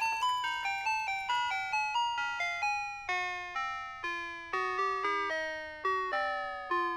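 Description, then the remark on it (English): A tinkling ice cream truck jingle plays alone, a bright chiming melody of clear, evenly spaced notes that each ring and fade, fairly loud, with no voices. “An ice cream truck in a former life.”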